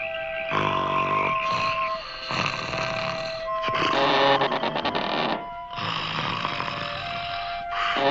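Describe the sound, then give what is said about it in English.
A man snores loudly, alone, in about four long rasping cycles, each rumbling snort trailing into a whistling, tonal exhale before the next breath begins. “…, you're snoring.”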